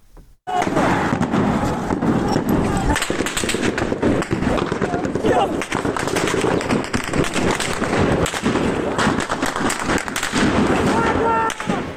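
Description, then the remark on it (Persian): Sustained bursts of automatic gunfire crackle almost nonstop in Piranshahr, Iran, loud and rapid-fire, with sharp cracks piling on top of each other while people's voices are mixed into the noisy, chaotic scene as protesters take cover. “و همینطور در پیرانشهر که صدای ممتد رگبار گلوله ها در ویدیو کاملا مشهود هست و پناه گرفتن معترضان زیر این رگبار گلوله ها.”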